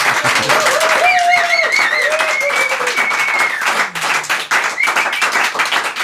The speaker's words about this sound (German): Ja, wir sitzen hier nämlich in einem Studio. Und das ist auch wirklich eine so. Eine Riesenanzahl, Myriaden von Gästen, die sich jetzt mal mit einem kräftigen Applaus bemerkbar machen.